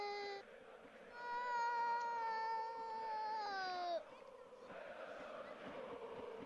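A single voice imitates Crvena Zvezda football fans cheering a goal that levels the score at 2-2: a short cry, then a long, loud, wavering 'ooh' that slides downward before breaking off, followed by quieter rustling noise.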